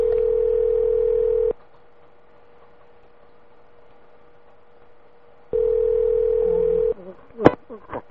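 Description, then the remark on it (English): A steady, low telephone dial tone plays for about a second and a half, stops, then returns before giving way to a quick few keypad dialing beeps. “Please enter the number you wish to call.”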